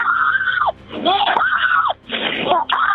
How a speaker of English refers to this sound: She screams.